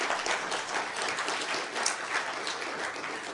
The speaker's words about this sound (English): Can I have a round of applause for my helpers here?